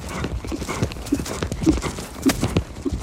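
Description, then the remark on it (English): Steady clip-clop of a horse's hooves striking the ground in a regular rhythm as it walks and trots over hills, moderately loud, with faint outdoor background noise and no one talking. “And a lot of just plain miles of walking and trotting over these hills.”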